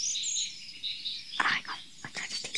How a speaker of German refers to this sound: Kuckuck. Kohlmeise. Kohlmeise.